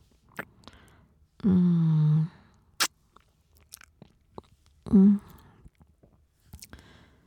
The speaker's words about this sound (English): Let me lick it all off my hand. You taste good.